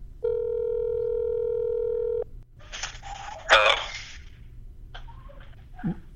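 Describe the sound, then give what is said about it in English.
An outgoing phone call rings with one steady electronic ringback tone lasting about two seconds, then it cuts off and scraping, clattering noises follow as the line is picked up. “So let's call him.”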